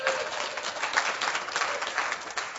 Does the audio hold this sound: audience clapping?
yes